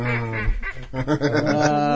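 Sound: ducks quacking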